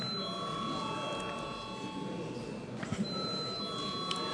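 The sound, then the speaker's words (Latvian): A parliament chamber bell rung before a vote rings steadily for the whole stretch, a continuous bright, high electric tone with a few shifting overtones, over a low murmur of voices and shuffling. “Lūdzu zvanu.”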